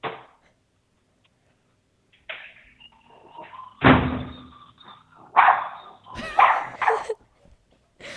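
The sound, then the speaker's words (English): A small black female schnauzer named Papu barks several times in short, sharp bursts at uneven intervals, fairly loud, with quiet pauses between the barks and no talking. “She's a little black schnauzer, and she's so cute.”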